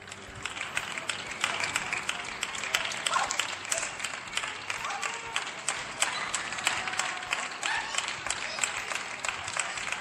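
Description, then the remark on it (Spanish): Sustained applause from neighbours on balconies in San Chinarro, Madrid, in homage to health workers: dense and steady, with countless sharp claps blending into a continuous crackle that holds at a fairly loud level for the whole stretch, with no speech. “Así aplauden los vecinos de San Chinarro en un micrófono de Lupe Ortiz.”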